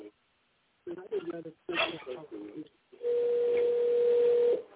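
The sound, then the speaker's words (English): A voice speaks briefly, then a steady electronic tone from an outgoing phone call placed with Siri hums clearly for about a second and a half over a faint hiss. “I've got to call one more person.”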